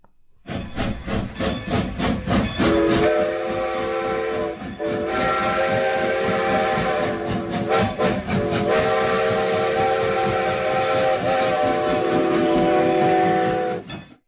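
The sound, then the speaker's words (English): A steam locomotive chugs along steadily while its whistle sounds in long, sustained blasts with brief breaks, loud, with hissing steam and rhythmic rail noise underneath and no voices. “From the early days of steam locomotives to today's modern network, the transformation has been nothing short of remarkable.”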